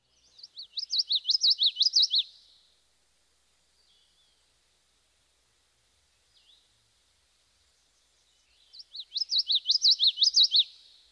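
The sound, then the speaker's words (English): A common yellowthroat sings its rolling witchity-witchity song twice, each a rapid series of bright, repeated chirpy phrases lasting about two seconds, separated by a long quiet pause with faint background sounds. “Now let's hear the typical witchity witchity song one more time.”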